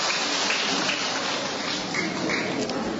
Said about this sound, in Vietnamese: À, thưa anh chị em, chúng ta trong một tràng pháo tay để chúng ta chào người chị em này.